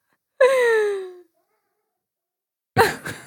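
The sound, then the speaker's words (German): A cat lets out one loud, drawn-out meow that slides downward in pitch, followed after a pause by a short, harsher burst of sound. No one speaks. “Ich höre Katzen miauen, ganz fürchterlich.”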